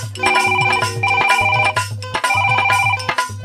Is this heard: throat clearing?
no